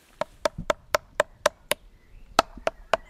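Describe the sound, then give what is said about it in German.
A tree inspector knocks a small soft-faced hammer on a tree trunk in a private garden to check the wood: seven evenly spaced, hollow woody raps, a brief pause, then three more. Crisp, with no talking. “Das ist der Schonhammer, damit klopfe ich jetzt mal.”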